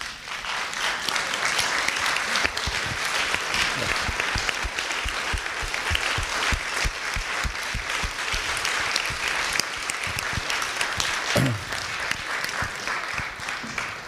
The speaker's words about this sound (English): I'd like to ask if this group would stand and applaud this group for the work they've done.